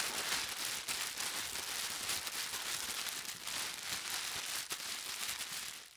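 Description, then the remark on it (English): Continuous crinkling and ripping of wrapping paper being torn open on a giant present, with sharp crackly bursts over about six seconds and no voices. “I started to tear open the wrapping paper.”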